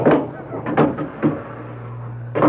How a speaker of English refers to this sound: Let me close the door.